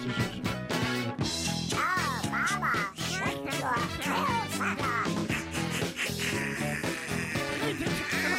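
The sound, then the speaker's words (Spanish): A loud, busy pop song with duck quacks worked into the music, several nasal quacks recurring over the steady beat and layered instruments. “¿Mataron al pato?”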